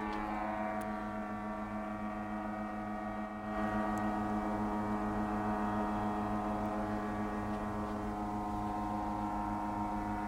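A steady, droning engine buzz from an unmanned test drone being tested at Boscombe Down, flying round on and off for 12 hours, rich in layered tones, holds an even pitch and loudness for the whole stretch. It swells slightly after a brief dip. No one speaks.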